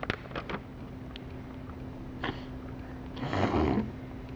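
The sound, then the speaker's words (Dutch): A deer gives a rough, throaty roar that swells for about half a second near the end, preceded by a few short scuffs over a steady low hum. “Oh, het is een hert.”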